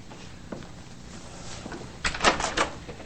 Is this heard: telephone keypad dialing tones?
no